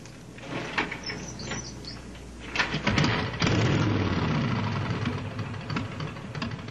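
A motorcycle engine cranks with a few clattering knocks, then catches and roars to life, revving loudly before settling into a steady, rumbling run. No one speaks.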